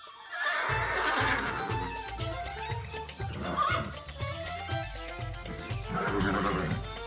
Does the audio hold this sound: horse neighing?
yes